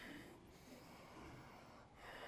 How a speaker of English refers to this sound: Gaze under your left armpit. I always sniff my arm when I do this. I take a little sniff just to check in.